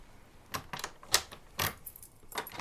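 A bunch of about ten keys jingles and clinks in several uneven bursts as someone searches for the right key to a door, bright metallic rattles, with quiet pauses between shakes and no voices.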